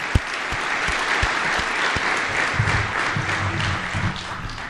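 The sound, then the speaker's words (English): Steady, full applause from an audience of about 440 people at an industry appreciation lunch, applauding existing industries and legacy businesses, fills the whole stretch, dense clapping at a constant level with a few sharper individual claps standing out. “So let's give a big round of applause for the existing industries and the legacy businesses that are in this room.”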